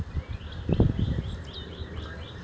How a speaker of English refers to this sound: Why do birds sing at the beginning of the day and the end of the day? Do they know something we don't?